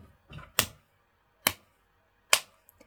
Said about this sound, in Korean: 그래서 자, 박수를 일단 먼저 칠게요.